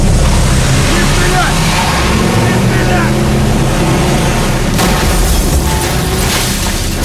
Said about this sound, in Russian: Но когда он приближается к фургону, машина срывается с места.